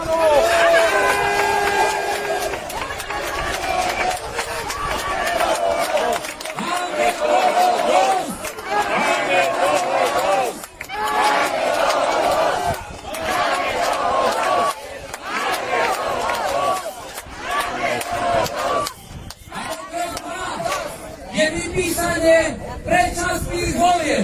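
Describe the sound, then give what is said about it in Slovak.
A large protest crowd shouts and cheers together, a dense, loud wall of voices that surges and dips in waves without letting up. “Iba tým davom ich vieme prinútiť a naozaj vystrašiť, že už máme toho dosť.”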